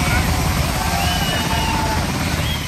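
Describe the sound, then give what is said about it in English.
A helicopter carrying freed hostages lands at Rabin Medical Center in Petah Tikva near Tel Aviv, Israel, its rotors roaring loudly and steadily through the whole stretch, with the indistinct cheering voices of a crowd mixed faintly beneath it. “Helicopter by helicopter, freed hostages landed to cheering crowds at Rabin Medical Center in Petah Tikva near Tel Aviv.”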